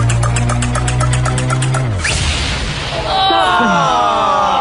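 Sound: bomb explosion sound effect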